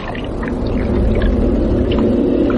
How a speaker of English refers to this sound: You shut up and listen. Sounds like breathing.